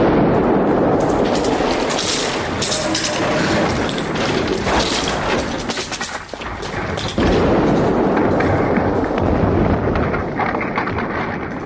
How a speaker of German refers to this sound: Nada löste die Zündung aus, die Bombe explodierte